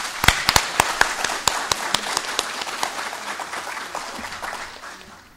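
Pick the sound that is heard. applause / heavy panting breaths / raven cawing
applause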